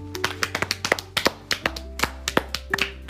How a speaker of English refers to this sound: We are done with the starters now. So let's do a round of applause for that.